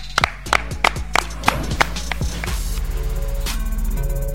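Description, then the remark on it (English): About seven crisp hand claps in a quick, fairly steady rhythm, distinct, followed by a steady buzzing background tone once the clapping stops. “Clap it up.”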